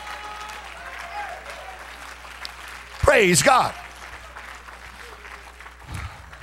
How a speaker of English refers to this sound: Well, you ought to clap your hands into him and bless his name.